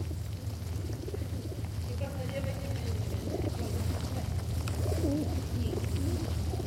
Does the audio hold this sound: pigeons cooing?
yes